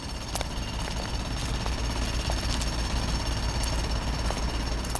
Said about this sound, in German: Oh je, und schon haben wir was Tolles entdeckt. Eine Baustelle. In der Stadt wird so viel gebaut.